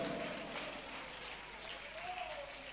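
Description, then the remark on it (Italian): An audience applauds in praise of the Lord Jesus Christ, a steady, dense wash of clapping that holds at an even level throughout, with faint voices rising above it now and then. “Ma a voi è stata data di ricevere la rivelazione, a voi è stata data di ricevere la potenza, e in questa potenza, alleluia, noi vogliamo lodare e applaudire il Signore Gesù Cristo.”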